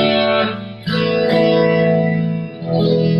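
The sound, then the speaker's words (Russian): A sustained, loud organ-like chord swirls with a rotating, wavering shimmer, the pitch changing twice as the tone sweeps and pulses: the Leslie rotary speaker effect, produced by spinning speakers. No voices are heard. “Раньше, 20-30 лет назад, для того, чтобы получить такой эффект, устанавливали огромные двигатели, которые крутили динамики, и вот этот rotary sound, так называемый rotary, вы слышите?”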